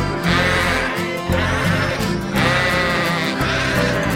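Several sheep bleat loudly in overlapping, wavering calls, with short pauses between the long baaing cries.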